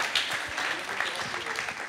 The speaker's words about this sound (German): Vereinzelter Applaus, ja.